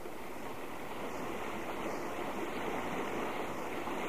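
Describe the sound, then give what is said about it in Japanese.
Steady, rushing river water flows continuously, a broad even hiss of current that stays constant throughout with no voices. “あ、川に出ちゃった。 ここから先は行けないわ。”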